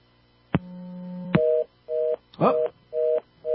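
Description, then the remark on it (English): A dropped phone call: the line goes dead with a click, then a steady low tone, followed by a loud, repeating on-off beep signal, about four pulses, with no one speaking. “I guess we had an issue with the phone there. Lost Sophia.”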